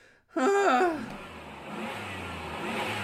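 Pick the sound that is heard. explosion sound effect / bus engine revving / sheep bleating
bus engine revving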